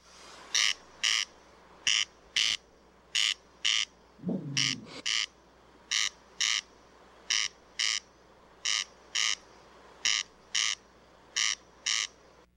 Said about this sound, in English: The judges' votes are in, and the answer is Corn Crake is the bird. Yeah!